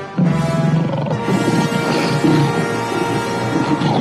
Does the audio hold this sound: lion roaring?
yes